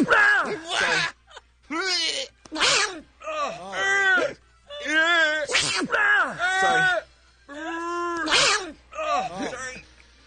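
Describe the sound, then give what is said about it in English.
A run of short, sharp, real, unaltered recorded sneezes, each trailed by a drawn-out, wavering groan of pain, repeating about half a dozen times in loud bursts separated by brief pauses. “These are real sneezes, people.”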